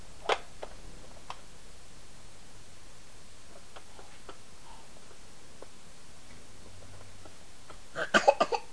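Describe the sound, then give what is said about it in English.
A sharp sneeze bursts out near the end after several seconds of near-silence broken only by faint scattered clicks and taps. “Bless you.”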